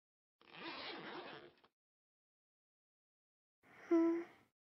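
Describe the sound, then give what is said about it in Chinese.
A trouser zipper is drawn down in one steady, rasping pull about a second long; after a short silence, a brief breathy sound with a faint voiced tone follows. “哥，自己把裤子拉链拉下来，我要把脚伸进去暖暖。”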